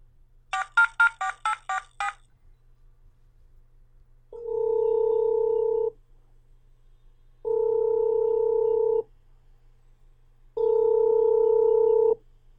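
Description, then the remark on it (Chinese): A quick run of phone keypad beeps as someone dials a call, then a steady ringback tone sounds three times, each about a second and a half long with even pauses between, clear with no voices. “我打个电话问问。”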